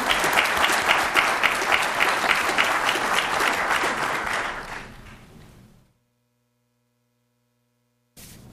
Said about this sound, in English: Maybe we could give her a little round of applause here.